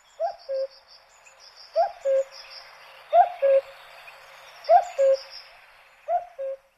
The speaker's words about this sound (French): Coucou gris, 32 cm. Lorsqu'il chante, le coucou ne cesse de répéter son propre nom, un coucou qui porte loin à travers la forêt. Il est bien plus difficile d'apercevoir son plumage ressemblant à celui d'un rapace.